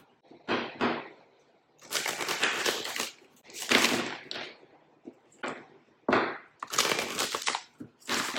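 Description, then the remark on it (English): A deck of tarot cards is shuffled for a tarot reading, with repeated crisp, papery riffling bursts separated by brief pauses, about seven rounds in all, and no talking. “I'm going to shuffle the deck five times.”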